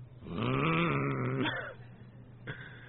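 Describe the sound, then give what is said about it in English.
A man's voice lets out a drawn-out, rough growl for about a second, imitating an angry animal, then it fades, followed by a brief click and quiet background. “He was the meekest man that ever lived, so maybe he didn't growl.”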